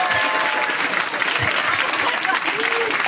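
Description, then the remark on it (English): A crowd bursts into sustained applause for a pacing team before a running shakeout, dense clapping loudly and evenly for a few seconds, with faint voices mixed underneath. “These guys right here, they're the hardest working pacing team, so I just wanna give them a round of applause first and foremost.”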